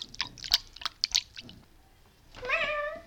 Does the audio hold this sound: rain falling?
no